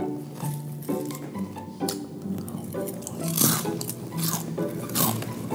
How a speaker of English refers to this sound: Oh my God, could you chew any louder?